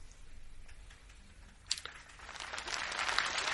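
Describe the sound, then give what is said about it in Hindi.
A crowd at a satsang (spiritual discourse) breaks into applause partway through, starting with a few scattered claps and swelling into steady, dense clapping that stays moderately loud to the end. “बस तालियां जाना नहीं बजाओ, ये ऊंची बात सुनो।”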